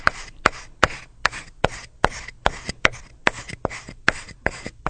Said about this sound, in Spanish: Ahí terminó de triturar las hojas. Usted me dijo que el viejo estaba haciendo algo importante, ¿no? Primero tostó las hojas, las molió y en este momento anda como buscando algo.